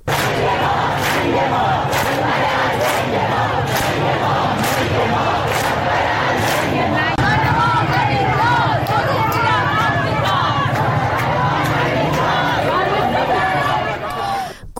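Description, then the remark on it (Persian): A large crowd of protesters on Hijab Street in Tehran, Iran, shouts protest slogans against Ali Khamenei in unison, a loud, dense roar of many voices rising and falling in rhythmic chants, with sharp bursts like whistles or claps punctuating the din throughout. “صدای اعتراض مردم تهران رو بشنویم.”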